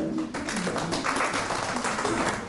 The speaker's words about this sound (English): That's good. There's only a moderate clap because we do have to deal with the issue is asking God for help in exams cheating.